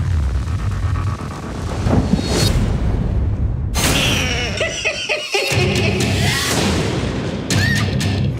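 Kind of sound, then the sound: nature, thunderstorm thunder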